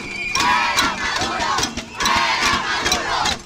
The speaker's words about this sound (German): Maduro raus, rief die wütende Menge letztes Wochenende.